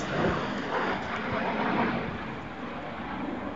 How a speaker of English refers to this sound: A high-speed supersonic jet just gone over. Jet fighter. Very, very nice. Very keen on aeroplanes, me. So that's delightful. Doing a low pass over the hills. Oh, and away over to Wales.